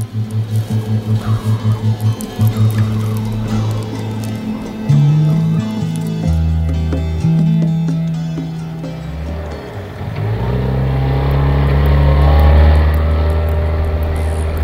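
A motorboat engine roars loudly at high speed, starting with a rapid throbbing pulse before the pitch shifts and settles into a steady, powerful drone with water noise.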